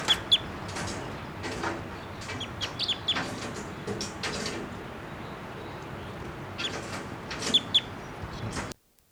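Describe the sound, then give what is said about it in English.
A captured male bird, later collected as specimen 689, calls in short, sharp, high chirps that come in scattered bursts, some louder than others, over a steady rushing background noise, with no talking. “Okay, the first two birds that were captured will be 687 female, 688 the male, and the last bird that was just calling there was collected, and he'll be 689 JGG 612, and he was also photographed with a 500 millimeter lens just prior to collection.”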